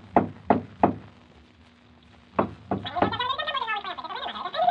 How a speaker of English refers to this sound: He tried to get me to open the door, but when I wouldn't, he jumped onto the door knocker and swung back and forth on it.